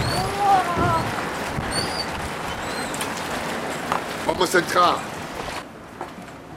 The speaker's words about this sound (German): Und sei vorsichtig, draußen ist es nass. Der Wind bläst mich fast weg. Der Regen peitscht mir ins Gesicht.